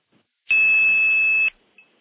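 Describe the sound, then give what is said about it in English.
A single loud, steady 2600 hertz tone, played on a telephone line to seize the trunk, holds for about a second and cuts off cleanly, followed by a faint brief chirp on the line as the trunk winks back. “Now what I'm going to do is play 2600. When I stop playing 2600, listen for the wink back.”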